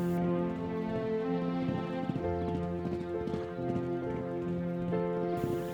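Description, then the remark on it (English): Horses' hooves beat in a quick, steady rhythm as they run along a road covered in freshly fallen, powder-white snow, the thuds fairly muffled, set against a continuous ringing tonal backdrop with no voices. “The horses are now running on a powder white road.”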